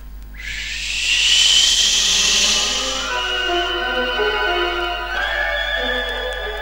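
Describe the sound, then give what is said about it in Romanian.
A loud, forceful whoosh of flame blown hard from a piglet's nostrils as two streams of fire surges in with a broad hissing roar, then settles into a sustained, layered whistling whine that shifts pitch slightly and carries on for several seconds. “Suflând cu putere, din nările purcelului au pornit două suluri de foc, de la bordeiul moșneagului și până la palatul împăratului.”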